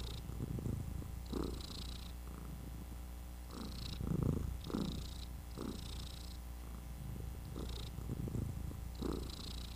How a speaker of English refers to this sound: Well, we just opened up the show there with a little bit of Pod Kitty. That's right. Pod Cat was purring her little butt off.